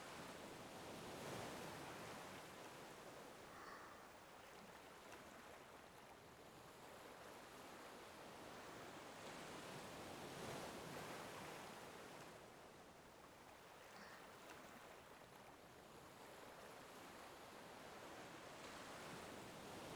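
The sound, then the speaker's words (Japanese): Continuous ocean surf washing onto the shore, broad hissing noise swelling and receding in slow cycles every few seconds, steady, with no voices. “せっかくここにいるんだから、海の方見なさいよ。”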